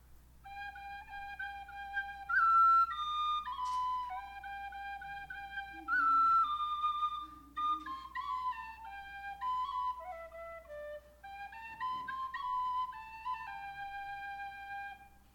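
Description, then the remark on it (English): A handheld aluminum whistle call imitates a bird, sounding a clear run of warbling whistled notes that slide up and down in short phrases for about fifteen seconds, with no talking. “This is the aluminum. And it sounds the most like a bird.”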